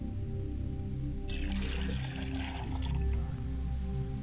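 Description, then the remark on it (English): Water is poured from a glass onto the ground as an offering, in a steady splashing stream for about two seconds, over a continuous low humming drone that runs throughout. “I pour water to the ground, and I say Ashe.”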